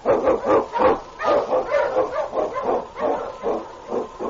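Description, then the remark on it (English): A husky sled dog, King, an Eskimo lead dog, barks over and over in quick, steady bursts, loud, with no pauses between the yelps and no talking. “The Wonder Dog King, swiftest and strongest Eskimo lead dogs, blazes the trail through storm and snow for Sergeant Preston as he meets the challenge of the Yukon.”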